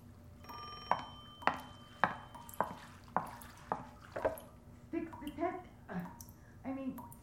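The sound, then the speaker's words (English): A telephone rings at 4 a.m. with a steady run of evenly spaced, bell-like strikes over a faint tonal hum, having rung for an hour. Muffled voices follow near the end. “Why the hell is the phone ringing? It's been ringing for an hour.”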